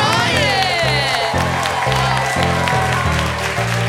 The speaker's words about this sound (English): Please give a round of applause to the cast and crew.